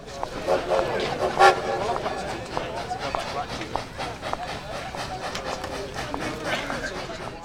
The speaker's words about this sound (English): Bobby walks to the station. She sits and watches the trains.